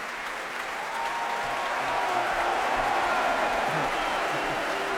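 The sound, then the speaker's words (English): A large audience claps steadily and loudly for Brindley Sherratt as John Claggett, the applause swelling after the first second, with some playful mock booing and crowd voices mixed into the sustained clapping. “Well, I think you can tell by the roar of applause and appreciation, but the mock boos, who that was.”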